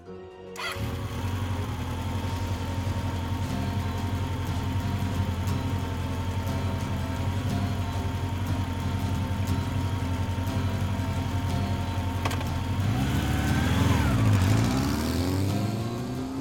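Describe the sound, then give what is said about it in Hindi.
A motorcycle engine starts and idles with a steady low rumble, then revs up near the end with rising, whining pitch sweeps. No one speaks; the engine is close and fairly loud throughout. “Shreya bike पर बैठती है और कबीर को पीछे बैठने का इशारा करती है।”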